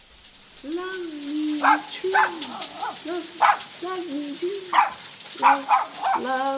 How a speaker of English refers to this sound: Bad puppy dog.